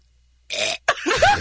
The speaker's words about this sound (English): Wait, was that even a burp? That was manufactured, I think. It was.